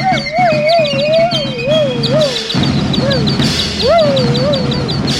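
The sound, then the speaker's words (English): Two canaries chirp in quick, bright bursts over a steady warbling whistle-like tone and a low, dense rumble, with a brief break midway before the chirping and warble pick up again. “Two canaries and a dog are so much trouble.”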